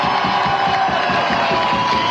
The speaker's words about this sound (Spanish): A nuestros carabineros, y démosle un aplauso a nuestros carabineros.